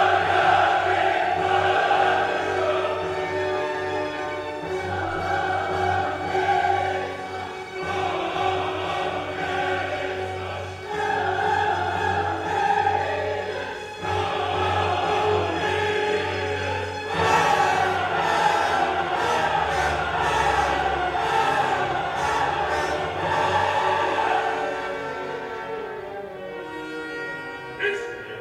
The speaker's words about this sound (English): Peasants' high register quasi-yodeling and intense melismas strain the larynx and stretch the unison voice of the crowd to a physical limit. The embodied medium of communication is distressed.